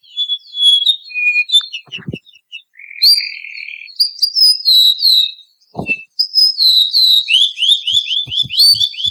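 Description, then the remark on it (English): A male O'u, a Hawaiian honeycreeper, sings clear whistled notes, sliding and sustained, then closes with a rapid series of descending notes forming a trill, fairly loud with a few soft clicks beneath. “The sweet, clear song of the male was a people's favorite, and it begins with a few distinctive whistled notes and ends with a series of downward notes known as a trill.”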